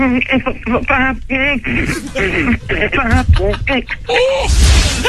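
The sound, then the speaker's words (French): A voice imitates an EEG monitor beep with a string of short, wavering sung tones, about ten uneven bursts whose pitch wobbles and slides. The imitation is fairly loud and ends in a noisy rush. “Je crois qu'il faut que tu me fasses le bip de l'électroencéphalogramme, tu sais, pour dire que tu vas bien, pour me dire que t'es toujours en vie.”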